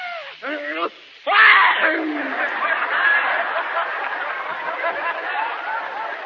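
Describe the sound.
A person imitates a big, hefty sneeze: a couple of rising vocal gasps, then one loud explosive burst, followed by a steady wash of crowd chatter and laughter.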